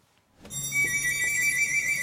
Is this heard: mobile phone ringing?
yes